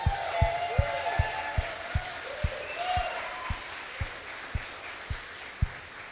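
An audience claps together to cheer on God, in a steady, even rhythm, about fifteen sharp claps, while a few raised voices and whoops rise and fall underneath.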